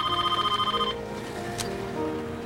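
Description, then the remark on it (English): A loud telephone bell trills rapidly for just under a second, then cuts off, leaving a low, steady outdoor background hum. “Flinching, he fumbles for the phone.”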